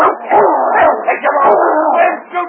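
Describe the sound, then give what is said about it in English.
A trained dog named King snarls and barks ferociously as it attacks a man, a loud, continuous burst of growls and yelps, with no pause for the whole moment. “Take this dog away.”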